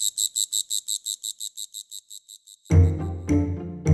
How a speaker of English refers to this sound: Of course, not every insect can make that kind of racket. There's specific groups that tend to make a lot of noise, like the katydids, crickets, and grasshoppers.